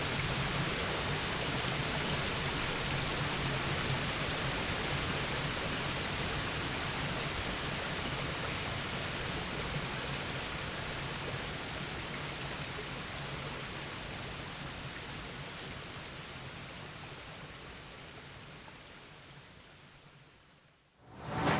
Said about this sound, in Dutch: Waar ik zo respect voor heb, is de kracht van het water. En dat je denkt van nou, water dat is iets wat zomaar voorbij kan gaan. Maar als het een waterval is, komt het van bovenaf met z'n allen. En het blijft maar stromen, stromen, stromen.